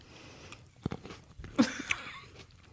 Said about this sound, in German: Magst du auch ins Mikrofon was schmatzen? Ja. Nimm mal Traube.